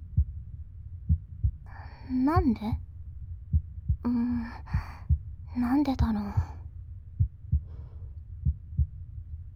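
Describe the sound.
A steady heartbeat thumps in a regular low rhythm throughout, while a soft, breathy voice whispers a few short phrases over it.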